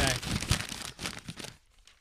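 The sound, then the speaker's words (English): A front-page sheet of paper rustles and crinkles for about a second and a half, a dense run of dry crackles, then stops, leaving near silence. “I got a piece of paper, front page.”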